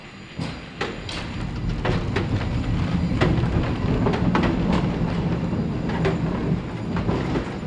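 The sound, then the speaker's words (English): A San Francisco cable car rolls along its rails with a steady low rumble, irregular sharp metallic clacks and a thin, high whine running throughout, with no voices. “We sent KALW's Linda Jew to meet the folks who keep San Francisco's most iconic public transportation system in working order.”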